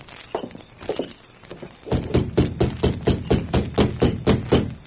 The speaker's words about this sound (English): the Lone Ranger left the jail and made his way along the almost deserted streets of Pecos toward the sheriff's home. He stopped occasionally to ask directions, and then a short time later approached the darkened house and rapped at the door.